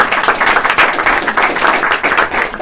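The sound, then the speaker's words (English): An audience claps steadily at the end of a panel discussion, a dense, continuous patter of many hands with no pauses throughout. “And I want to thank all the panelists for their the care that they took in and I also want you to give yourselves a hand of applause.”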